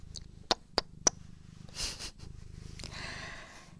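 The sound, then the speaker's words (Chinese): A cat purrs steadily, a low rhythmic rumble throughout, broken by three quick clicks early on and a couple of soft rustling, breathy bursts. “谁家的小猫猫这么乖呀？”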